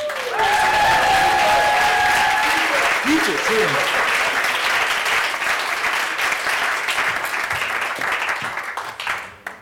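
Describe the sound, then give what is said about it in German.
An audience at an award announcement applauds steadily for nearly ten seconds, dense, loud clapping that tapers off at the end, with a few brief whistles or cheers early on. “Nein, nein, noch nicht, wir brauchen wieder einen kleinen Applaus.”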